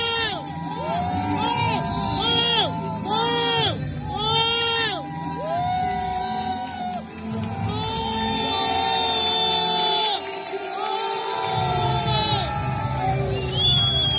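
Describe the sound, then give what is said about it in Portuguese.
A large stadium crowd roars and cheers continuously as a Turkey supporter kneels and proposes to his girlfriend with a ring during a Friday night match, with shrill whoops and excited shouts rising above the dense, loud wall of voices throughout. “No som houve-se a reação dos adeptos nas bancadas, a gritarem mais que a noiva, por isso o entusiasmo foi geral.”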